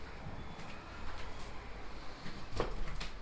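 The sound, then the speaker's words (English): A faint, steady rumble of traffic heard from inside a living room, with a soft whooshing wash as cars pass and a few light clicks near the end. “You can hear seagulls and cars.”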